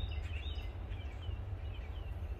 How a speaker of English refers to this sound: They wanted me to make sure that you know that the Eagles were circling at the corner of Lakeshore Drive and Forest Drive right by Tuesday morning. That is, listen to the bird.